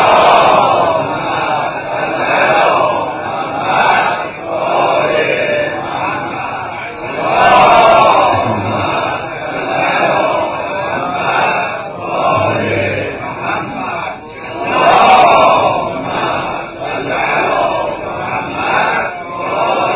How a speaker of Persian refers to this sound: سه تا صلوات بلند مرحمت